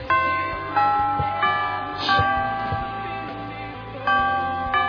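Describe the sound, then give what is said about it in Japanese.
An electronic chime, the usual one, plays its melody twice back to back because it was rung twice in a row, a series of bright, ringing tones with sustained overlapping notes. No one speaks. “すごい珍しいチャイムが鳴ってしまったんですが、何のことはない、連続で2回鳴らしてしまっただけでしたと。”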